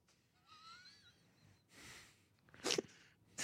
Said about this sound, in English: What a demure sneeze you have for such a large, tall man. There's different levels. Sometimes I'm really loud.